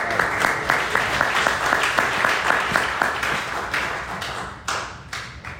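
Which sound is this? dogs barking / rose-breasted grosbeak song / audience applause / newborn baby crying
audience applause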